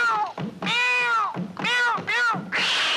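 A cat meows loudly, three or four drawn-out, rising-and-falling cries in quick succession, ending with a short breathy, noisy burst.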